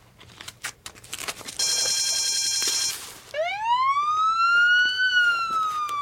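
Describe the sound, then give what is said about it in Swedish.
A burglar alarm set off by a break-in: a few sharp clicks give way to a steady, high electronic alarm tone, then a loud siren wails up in pitch and holds a sustained, slowly bending howl. “Larmet börjar tjuta och polisen är snabbt på plats.”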